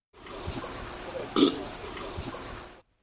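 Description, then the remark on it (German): A deep, drawn-out elephant burp rumbles for over two seconds, swelling to a louder, rougher burst midway before fading, heard alone with no talking. “Ja, es war der Rülpser von einem Elefant.”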